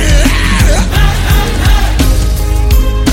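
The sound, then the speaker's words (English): An audience yells together loudly and continuously at the devil, a dense wall of many voices over a pounding rhythmic beat and music, filling the whole few seconds. “Yell it loud unto the devil.”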